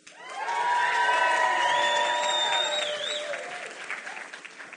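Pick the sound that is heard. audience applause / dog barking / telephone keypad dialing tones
audience applause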